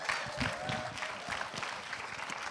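A church audience at Harvest VA claps steadily for a speaker coming up to preach, in a dense, continuous wash of applause that holds at an even level throughout, with faint murmurs of voices underneath.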